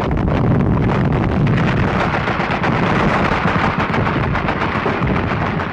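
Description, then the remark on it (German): A dense, continuous First World War artillery barrage roars throughout, thick with overlapping explosions and rapid gunfire cracks, loud and unrelenting with a rumbling low end and no voices. “Der unmenschliche Lärm des Ersten Weltkriegs kommt von den Kriegsmaschinen des Industriezeitalters. Schwere Explosionen, pfeifende Geschosse, zum ersten Mal auch Flugzeuge.”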